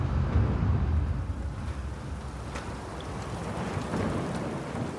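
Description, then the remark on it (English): A steady, roaring storm at sea in the early morning: a mix of snow, sleet and hail pounds a boat's exposed deck over a deep rumble of strong, icy wind and huge waves, loudest at the start, with no voices. “There's a strong, icy wind, and a mix of snow, sleet, and hail pound the exposed deck.”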